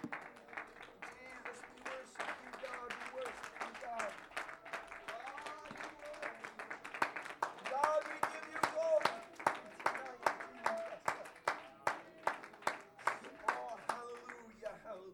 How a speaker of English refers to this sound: Oh, let's put our hands together and give God a good hand clap of praise.